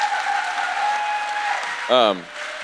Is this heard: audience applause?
yes